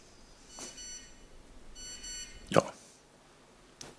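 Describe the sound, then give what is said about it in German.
A mobile phone receiving a message carrying an operator logo gives two short bursts of quiet, rapid electronic beeping about a second apart, with a few soft clicks and a thud. “Und es piepst und wir bekommen ein Operator-Logo.”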